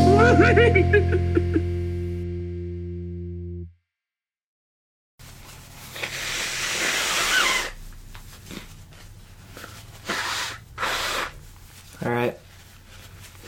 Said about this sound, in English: You blowing your nose? Sure am. Gotta get it all out there before we start. I don't want to be sniffing the whole time.